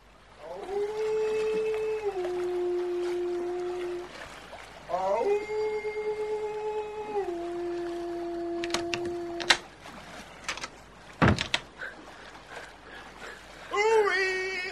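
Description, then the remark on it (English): Long, eerie banshee-like wailing tones rise, hold steady and fall in two drawn-out cries over gently lapping waves, followed by sharp clicks and a brief final warbling wail. “Then, above the gentle lapping of the waves, I perceived a sinister banshee wail.”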